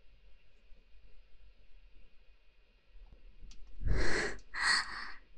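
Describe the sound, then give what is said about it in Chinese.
Two loud, heavy, rapid breaths come close together near the end after a stretch of near silence, each a harsh, airy rush of air. “上下上下，听你自己的呼吸声有多急促，别忘了上的时候学狗叫。”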